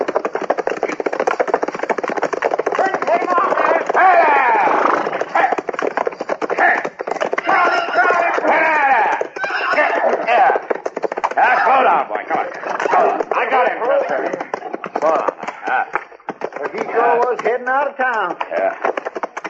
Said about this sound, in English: Somebody's sure riding up front street awful fast, ain't they? Yeah. That's a runaway horse